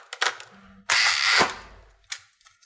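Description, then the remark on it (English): A crank-operated manual bus ticket machine: a short ratcheting whirr, then a loud grinding rattle lasting about half a second, followed by a brief clack and a softer trailing click. “That's a manual bus ticket machine, the kind operated with a crank handle.”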